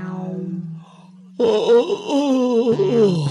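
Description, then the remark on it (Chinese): A single long, drawn-out yawn voiced by a person as a big bear, starting as a low hum, then opening into a loud, wavering groan that slowly trails off, clear with no other sounds. “说完打了个大哈欠。”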